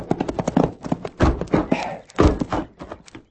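Horse hooves clip-clop in a quick, steady rhythm, then the beats grow heavier and sparser as the rider reins up the horse and it comes to a stop.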